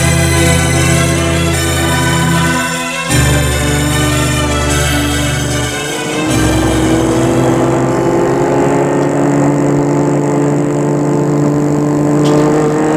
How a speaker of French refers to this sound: Il est 7h du matin, ils ont mis la valise dans le coffre et sont partis.